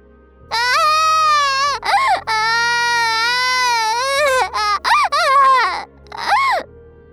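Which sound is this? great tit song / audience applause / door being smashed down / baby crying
baby crying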